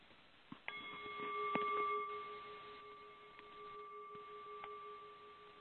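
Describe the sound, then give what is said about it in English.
A single bell is struck and rings out with a clear, steady tone that hums for several seconds before being damped, with a few faint clicks around it and no talking. “The delicious conversation you're hearing today was previously recorded live and will begin after the bell.”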